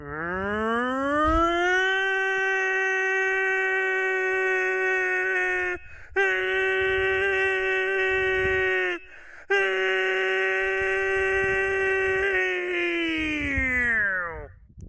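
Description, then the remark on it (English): A man's voice imitates a tornado siren, a long sustained wail that rises at the start, holds a steady loud pitch with two brief breaks, then slides down at the end. “I mean, if you are ever in the situation where you need a tornado siren and you don't have one... Just call him and put him on speakerphone.”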